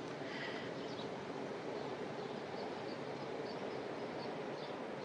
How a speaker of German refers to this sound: Jetzt rauscht es auch in den Bäumen. Diesmal ist es der Wind.